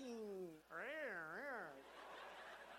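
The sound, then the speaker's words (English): A human voice imitates a cat's meow: a falling tone, then a drawn-out wavering cry that rises and dips twice, trailing into soft breathy noise. It is fairly loud, with no other speech. “You know, cats, they're either like meow or woof, woof, woof, woof.”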